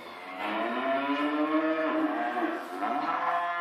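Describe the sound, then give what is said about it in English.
A cow moos in one long, drawn-out bellow that lasts several seconds, loud, with the pitch bending slightly near the end and no voices around it. “The cow has always been holy to millions of Hindus, but it's still a placid animal.”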